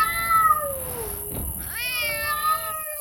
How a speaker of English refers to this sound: Cats. Feral cats. The island was overrun with them.